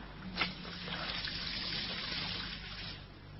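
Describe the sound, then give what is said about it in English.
Water pours steadily into a glass for about three seconds, a soft continuous trickle that starts with a small clink and then fades slightly at the end, with no voices. “I'll get you a drink of water.”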